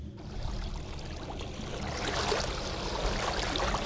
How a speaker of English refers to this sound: It's called …, and it's a bunch of water sounds.